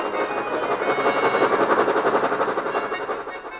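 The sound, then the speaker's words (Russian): A train rumbles steadily along the tracks, its wheels clattering in a fast, even rhythm, loud throughout with no voices. “Во всех направлениях грохочут поезда, сотни вагонов с поющими вооруженными навехонькими винтовками солдатами.”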